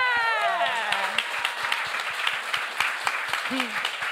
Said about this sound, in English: I'm like, yes. Applause, yes.